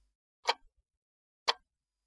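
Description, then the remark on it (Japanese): Two crisp, isolated ticks spaced exactly a second apart, like a clock ticking steadily amid silence; fairly quiet, with no voices. “し、チクタクチクタクってこれ時計の音？”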